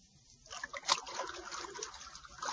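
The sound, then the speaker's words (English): Water trickles and splashes steadily into a room, boring in to fill it, at moderate volume, a continuous bubbling, dribbling flow that starts after a brief quiet moment and keeps running without any voices. “It's water, Bucky. And unless you tell me what I want to know, more water, much more, will continue to bore into this room until it is filled.”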